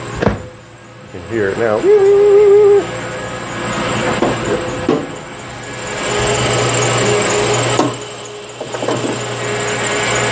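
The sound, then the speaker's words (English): A truck engine cranks and settles into a steady idle, with a high, wavering squeal rising over the start-up and a thin chirping whine from a worn engine belt persisting above the engine noise. A voice speaks briefly. “So you hear that chirping sound? It's really bad.”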